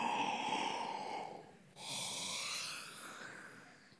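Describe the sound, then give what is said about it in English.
A speaker's loud, drawn-out fake yawn during a sermon: a breathy inhale rising into a strained, exaggerated exhale, with a brief catch in the middle and no words spoken. “But you know yawns are contagious.”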